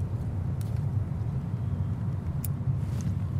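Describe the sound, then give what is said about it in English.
Steady low roar of cars rushing along a highway on a partly cloudy day, a continuous rumble of tires and engines with a few faint higher swishes passing by, no voices. “Cars travel down a highway on a partly cloudy day.”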